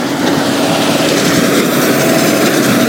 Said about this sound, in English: So I'm walking home. And here's a tractor coming alongside me to make bales of hay. I've never seen this operation, actually. Let's stop and listen.